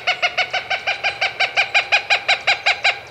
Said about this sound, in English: A mated pair of Cooper's hawks, swift, bird-catching predators, perch side by side. Slender, dashing, gray, and rufous hawks, the male is 15 inches long. The female, however, stands a head taller and outweighs him by half.